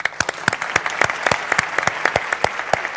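A crowd applauds a designer steadily, with many sharp overlapping claps forming a dense, even rhythm at a moderate volume throughout, without any voices.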